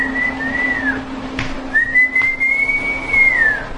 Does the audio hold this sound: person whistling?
yes